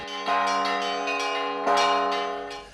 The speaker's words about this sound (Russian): Праздник оставил самое доброе впечатление, а прихрамовая территория еще долго оглашалась пасхальным и иными видами колокольного звона.